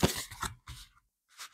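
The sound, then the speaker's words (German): Crisp papery rustling and sliding as a tarot card is drawn from a deck, in a few short bursts: a longer scrape, a second swipe, then a brief soft flick after a pause. “Nehme ich auch eine Karte.”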